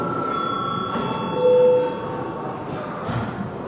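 parliament voting bell ringing

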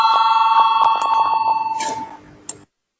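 parliamentary voting bell ringing

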